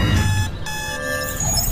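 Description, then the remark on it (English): A loud, steady electronic tone rings continuously with no break from an alarm clock that must be loaded before bed and shoots a dart, its sharp layered pitches holding even over a low rumble underneath. “I have to load my alarm clock.”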